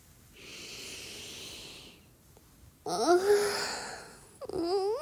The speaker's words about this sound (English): Okay. Scientific sniffing commencing.